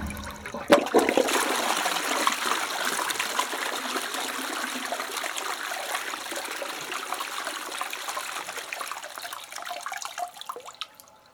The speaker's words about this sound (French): L'eau qui coule, l'eau qui coule, l'eau qui coule, l'eau qui coule, l'eau qui coule, l'eau qui coule.